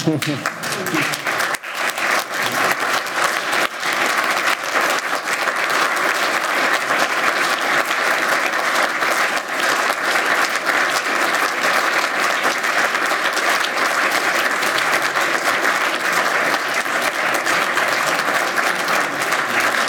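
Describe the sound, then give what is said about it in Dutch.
A large crowd stands and claps steadily for a sustained stretch, a standing ovation welcoming the departing alderman, a dense, loud wash of applause that holds at an even level throughout without fading. “Mag ik u gaan verzoeken te gaan staan en een applaus te geven?”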